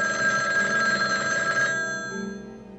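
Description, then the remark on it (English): A telephone bell rings loudly in a steady, sustained metallic trill in a trailer for the MGM motion picture Telephone, then cuts off abruptly and leaves a fading low hum. No voices are heard. “They don't know who they are, but one man knows that all it will take to trigger them is a simple phone call.”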